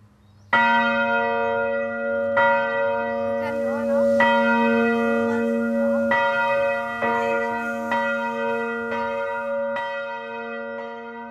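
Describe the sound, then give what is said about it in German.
A large church bell rings loudly, struck about every one and a half seconds in a steady swinging rhythm, its rich overtones sustaining and overlapping between strikes. It is rung by a chain-driven ringing machine that has just been switched on. “Das ist dann der ganze Antrieb, eine Läutemaschine mit Kette, wo das angetrieben wird. Und wenn wir einschalten, dann fängt es an zu läuten.”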